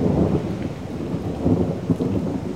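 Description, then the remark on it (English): A steady roar of heavy rain with deep rolling thunder rumbling underneath, loud throughout, with no voices present. “In late summer, Leathers says cold fronts move in after hot, humid days, pushing hot air up into the atmosphere and generating storms.”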